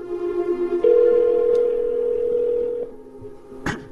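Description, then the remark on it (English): A steady electronic ringback tone from a call placed on an iPhone to a mobile number holds for about two seconds at a single mid pitch, then cuts off, followed by a brief click at the end. No one speaks. “And now we are calling Johnny here.”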